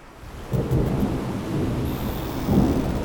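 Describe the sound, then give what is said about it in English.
A thunderstorm at sea rumbles with deep, rolling thunder swelling twice over steady, hissing rain, loud, with no voices present. “We will weather this storm.”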